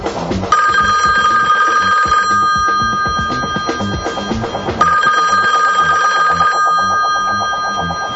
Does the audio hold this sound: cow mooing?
no